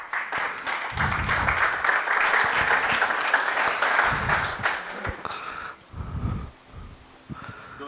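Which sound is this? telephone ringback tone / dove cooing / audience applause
audience applause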